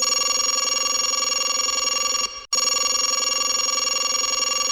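A telephone bell rings loudly and continuously up close, a steady metallic trill that breaks off for a split second midway before carrying on, with no voices.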